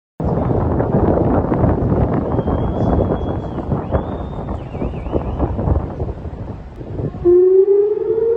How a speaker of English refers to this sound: In Jerusalem and across northern Israel, the sound of air raid sirens has rung out as flashes were seen in the sky over Israel, the West Bank, and Jordan. Iran has launched its first ever direct military assault on Israel, beginning late on Saturday.